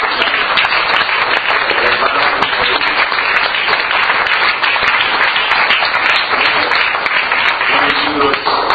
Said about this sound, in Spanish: Le damos palmas al Rey de Reyes.